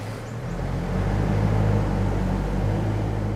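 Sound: motorway traffic noise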